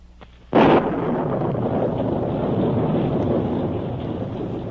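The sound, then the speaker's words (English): A sharp, loud thunderclap bursts in after a brief quiet moment, then gives way to a heavy, sustained rumble of a violent storm that roars steadily to the end in the evening after darkness has fallen, with no voices. “A violent storm was raging.”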